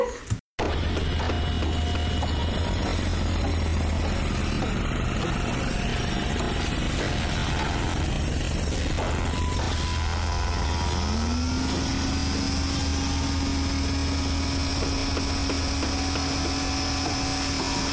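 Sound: construction site noise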